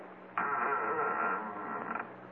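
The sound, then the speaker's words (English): A door at the head of an upstairs landing is pushed open with one sustained, strained creak that starts abruptly and holds a steady squeaky groan for over a second before fading out. No one speaks. “Okay, Sergeant, push the door.”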